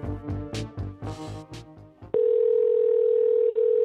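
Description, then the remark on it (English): A telephone call tone from calling a cell phone comes in abruptly: a steady, loud, unbroken electronic hum that holds for almost two seconds, following a short stretch of voiced, harmonic-rich sound. “That included calling three cell phones.”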